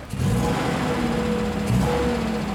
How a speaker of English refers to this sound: starts up the engine of the vintage Mini Cooper sitting in the driveway.